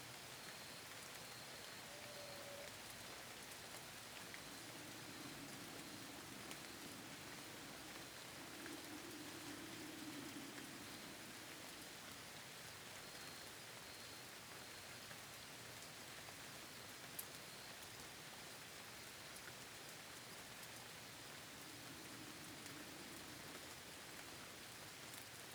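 Steady rain falls continuously, a soft even hiss with a faint low hum drifting in and out. No voices, just the constant patter from start to finish.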